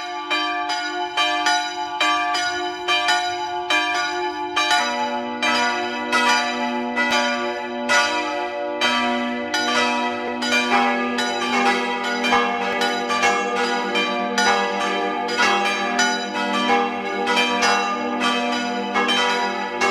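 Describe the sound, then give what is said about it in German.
The bells of the parish church Maria im Elend in Tattendorf, Lower Austria, ring together at noon in a full, continuous peal, overlapping strikes with long humming tones beneath, steady and loud throughout with no voices. “Es ist 12 Uhr. Sie hören die Glocken der Pfarrkirche Maria im Elend in Tattendorf, Niederösterreich.”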